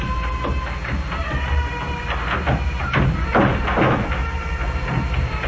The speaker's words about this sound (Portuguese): Olha, espere um momento, enquanto eu fecho aquela porta.